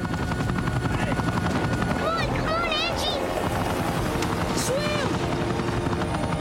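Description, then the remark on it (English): A helicopter roars loudly throughout as it is flown right down to the water near Victoria Falls, its rotor thumping steadily with heavy low rumble, while brief raised voices cut through the din in a couple of short bursts. “… concentrates as he takes the helicopter right down to the water.”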